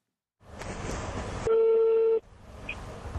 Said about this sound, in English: A phone call on a crackly line from Durban to a mobile somewhere in Somalia.